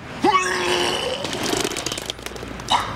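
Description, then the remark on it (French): Someone vomits with gagging, gulping heaves, a rising voiced retch at the start and another near the end, over a steady rumbling engine noise. “Non, non, c'est parce que quand je suis content, je vomis.”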